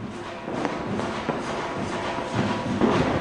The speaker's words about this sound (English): It's after dark in Delhi. Everyone has started letting off their crackers and firecrackers. So now the city is just a great teeming mass of sound and light.